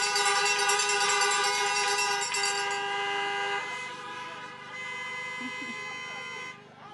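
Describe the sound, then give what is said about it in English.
A chorus of car horns honks in celebration at a nursing class pinning ceremony, several overlapping tones held steadily for seconds, loud, then thinning out and easing off toward the end. “Honk those cars for …!”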